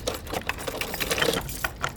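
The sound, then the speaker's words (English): A door opening, with a busy run of rattling, metallic clicks and clunks that continue steadily for about two seconds at moderate loudness, with no voices. “Oh, I hear a door.”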